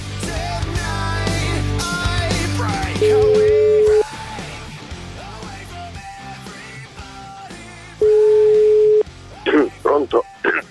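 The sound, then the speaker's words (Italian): Two long, steady electronic ringback tones of an outgoing phone call, each about a second, spaced several seconds apart over faint background talk and noise, followed by a few brief higher sounds at the end. “Adesso lo chiamo.”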